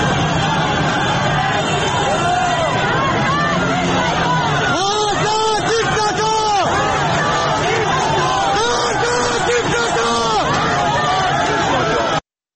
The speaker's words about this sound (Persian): صدای یکی از این اعتراض ها در نازی‌آباد تهران رو همراه درگیری هایی که در اون به نظر میرسه در حال رخ دادن هست بشنویم.